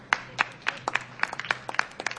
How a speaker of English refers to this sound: who's operating the sound system, leads the applause.